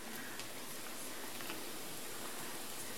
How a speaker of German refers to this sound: Mein Kraut dampft richtig.